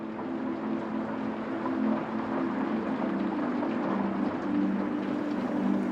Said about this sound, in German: Der Regen hat sich verstärkt. Du hörst ihn klar und deutlich, wie er an die Fenster prasselt.